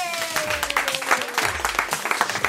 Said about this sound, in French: On peut s'applaudir ?